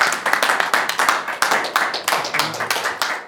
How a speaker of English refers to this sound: And I promise you, there aren't many press conferences which end with a burst of applause.